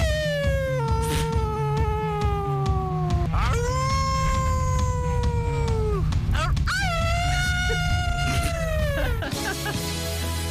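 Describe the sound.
A person imitates a wolf, letting out three long, drawn-out howls in a row that rise and waver in pitch. The howls are loud, over a steady low hum. The howls are made at an annual wolf-howl imitation competition at Osceola Heritage Park in Florida, USA.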